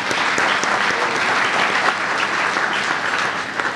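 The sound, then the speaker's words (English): Steady applause from an audience thanking an eye clinic for sponsoring a talk, a dense wash of clapping that holds at an even, fairly loud level throughout before easing slightly at the end. “If we could give a round of applause for Country Hills Eye Center for sponsoring this.”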